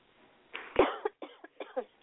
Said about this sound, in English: And you're coughing. I'm still trying to get over it.